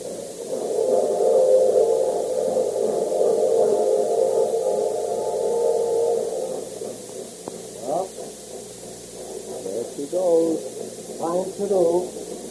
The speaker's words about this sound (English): So now, the train is leaving the station, and Oriane isn't on it.